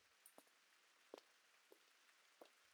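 Soft, steady rain hisses quietly in the background, with a few separate drops tapping at irregular intervals. No one speaks.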